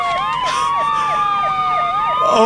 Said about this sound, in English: I hear sirens.